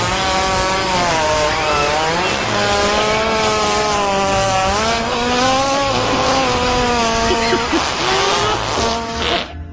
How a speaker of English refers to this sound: So we discovered the farting hippo on YouTube, and it's, that's it. It sounds like a buzzsaw. It's like somebody getting ready to chop down a tree.